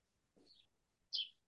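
Two short chirps from a call participant's birds sound in quick succession, the second louder and brighter, against an otherwise quiet background with no talking.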